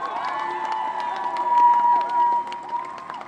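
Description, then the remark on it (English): A large outdoor crowd gathered in mourning murmurs and calls out continuously, many overlapping voices blending into a steady din with occasional louder swells and shouts rising above the hubbub. “How is that any different from me and my mob standing here in this crowd mourning?”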